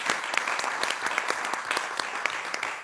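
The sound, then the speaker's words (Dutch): Steady applause from an assembly for a member just elected by acclamation, dense overlapping claps with sharper individual hand claps popping out, sustained evenly throughout. “En daar mag u wel hartelijk applaus voor geven.”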